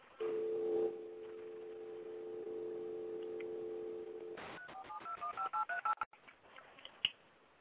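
signal or alarm, telephone keypad dialing tones

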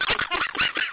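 animal, dog vocalizing

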